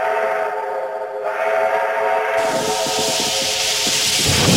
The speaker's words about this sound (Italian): È arrivato il nostro treno a vapore, un treno del secolo scorso.